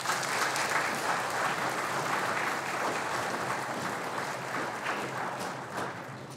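An audience claps steadily for several seconds, a dense, even wash of many hands at a fairly loud level that thins slightly toward the end, with no voices over it.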